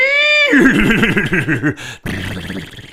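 A horse gives a loud whinny just outside a window on a May morning: a high tonal cry that breaks into rapid, shaking pulses, then a brief pause and a rougher, lower snorting finish.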